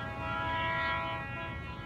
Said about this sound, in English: The train whistle sounds again, a little closer now, louder.